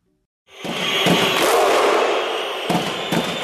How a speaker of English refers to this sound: That's a crowd of Iceland soccer fans cheering on their national team. Two beats and a clap. On the clap, everyone yells, "Huh!"